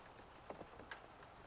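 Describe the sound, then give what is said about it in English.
Steady rain falls in a soft, continuous hiss, with a few louder drops pattering. No voices, just a gentle, even wash of rainfall. “Close your eyes and just focus on my voice and the sound of the rain.”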